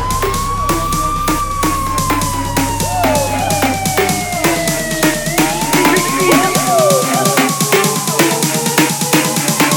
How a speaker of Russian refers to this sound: Орут сирены, за нами едут полицаи.